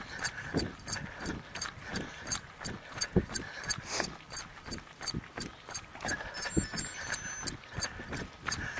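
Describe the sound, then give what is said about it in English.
A heart rate monitor beeps its alert in short electronic tones, signalling that the wearer's heart rate is not as high as it should be, partly buried under a steady, rhythmic pounding of footsteps, as if recorded while running. “And my heart rate's not up where it should be. That's what that beeping is.”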